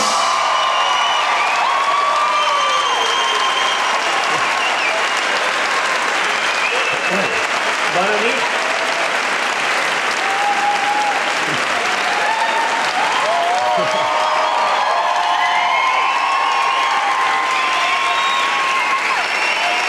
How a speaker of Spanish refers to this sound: Muchas gracias por venir, esperamos que lo paséis genial y os pedimos un fuerte aplauso para José Luis Sastre y Miguel Maldonado.